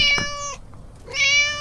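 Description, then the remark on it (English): A cat meows twice, loud, each call long and bright with a brief pause between them. No one speaks. “Hang that cat! He's been stealing again!”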